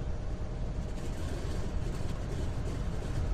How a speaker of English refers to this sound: Prime engine number 1 as required then. Fire up number 1. Fire up number 1. Starting number 1.